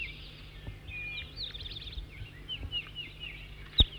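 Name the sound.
bird song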